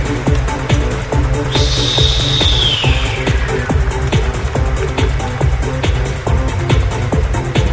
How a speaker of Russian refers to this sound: Итак, матч начинается. Свисток судьи. Поехали!